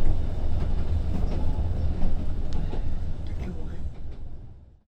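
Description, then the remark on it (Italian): A passenger train travelling to Kiev rumbles steadily along the rails, a heavy low-end roar with faint rhythmic clacks, loud, fading slightly at the end. “Sui treni per Kiev, che un mese fa viaggiavano al buio e con pochissimi passeggeri, ora sono tornate le persone.”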